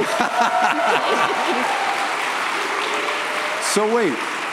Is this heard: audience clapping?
yes